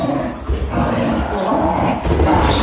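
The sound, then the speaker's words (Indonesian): A dog named Bruno suddenly barks very loudly at night, in a rough, continuous burst with a growling, roaring edge and no pause between barks. “Anjingku Bruno tiba-tiba saja menggonggong sangat keras.”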